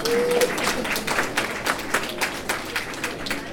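An audience bursts into sustained applause, many hands clapping in a dense, steady patter from start to finish at a moderate, even loudness, after a speaker asks them for a round of applause.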